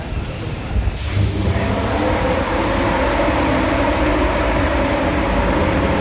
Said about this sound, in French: Le départ de notre TER à destination de Creil est imminent. Attention à la fermeture du matin des portes. Attention au départ.